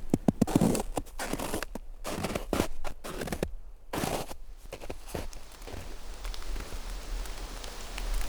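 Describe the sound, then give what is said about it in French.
Scattered raindrops patter on leaves in a forest, with irregular sharp taps over a soft, steady hiss of rain, the drops falling densely at first and then thinning into a continuous wash. “Perles de pluie, nuages de brume, vent qui bruisse”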